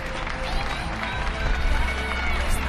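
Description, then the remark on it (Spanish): Continuous, dense clapping from many people on balconies around a city in Madrid, Spain, blending into a steady wash of applause with a few voices mixed in. “En algunos suena mejor, en otros a lo mejor hay un aplauso tan cercano que oculta los aplausos que llegan.”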